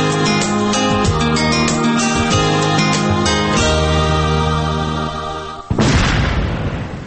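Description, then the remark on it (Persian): Steady tonal music plays, then cuts off as a single loud landmine explosion bursts in near the end, followed by a rumbling, noisy decay. “صدایی را که شنیدین صدای انفجار یک ماین بود.”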